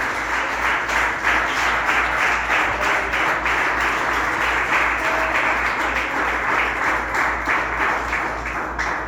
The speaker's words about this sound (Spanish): Denle un aplauso al Señor por ti. Gloria a Dios.